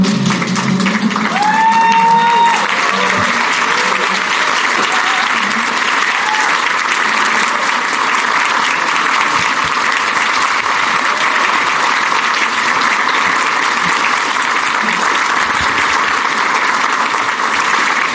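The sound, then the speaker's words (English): A large audience gives a standing ovation to thank an honoree: loud, dense applause that holds steady for about eighteen seconds, with a brief rising whoop near the start and no talking over it. “I would like everyone, if you're able, to stand to your feet and applaud and thank Amanda Agosti.”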